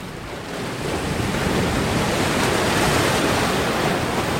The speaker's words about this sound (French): J'arrive plus à voir avec le vent.